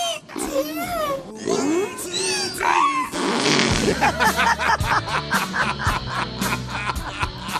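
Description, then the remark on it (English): A donkey named Harriet brays loudly and at length, harsh honking calls sliding up and down in pitch, then breaking into a rapid, rhythmic run of wheezing gasps. “Harriet is an operatic donkey.”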